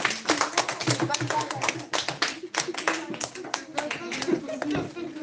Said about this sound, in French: Bravo, on l'applaudit.